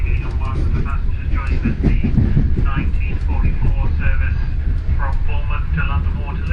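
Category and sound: vehicle, train interior ambience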